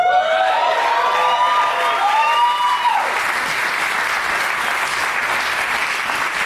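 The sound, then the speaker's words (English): A crowd applauds loudly and steadily for a man invited up to be a guest on the show, with whoops and cheers rising over the clapping in the first few seconds before it settles into sustained, dense applause. “Just sitting there soaking in all the applause instead of moving his ass.”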